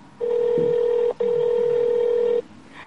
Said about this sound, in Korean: 일단 자동차 보험회사에 전화를 걸어 도움을 청하기로 하고 보험회사에 전화를 합니다.